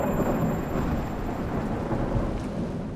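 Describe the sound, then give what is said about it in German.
A deep, sustained rumble of thunder from a lightning strike rolls on steadily at a fairly loud level, with a soft wash of rain underneath and no voices. “Das ist dann also der Blitz?”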